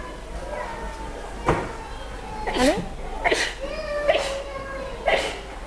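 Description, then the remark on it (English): A single short, sharp sneeze bursts out amid a background of soft, scattered voices and murmuring, followed by a few more brief vocal sounds. “Bless you.”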